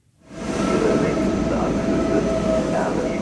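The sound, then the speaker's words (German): Busy railway platform ambience at Erfurt Hauptbahnhof: a steady, broad rumble of a train with faint squealing tones and murmured background chatter, fading in quickly and holding at a constant level. “Erfurt Hauptbahnhof. Der Zug von Berlin nach Wien sollte schon vor einer Viertelstunde angekommen sein.”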